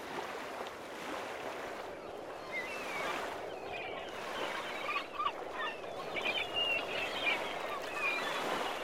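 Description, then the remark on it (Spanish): Several short, squawking cries of fluttering seagulls ring out at a beach over a steady wash of sea and wind noise, clustering toward the end, moderately loud. “El ruido del revolotear de las gaviotas.”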